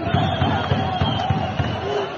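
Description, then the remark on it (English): Riot troops fire rubber bullets at protesters outside the parliament in Georgia, a rapid series of sharp pops, roughly three per second, over a constant roar of crowd noise and shouting voices. “So here you can hear riot troops firing rubber bullets.”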